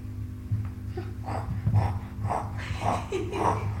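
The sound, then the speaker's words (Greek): A child's voice imitates a pig with a string of rough, nasal snorting grunts, about five short bursts in an uneven rhythm, fairly loud over a low steady hum. “Πώς κάνει το γουρούνι.”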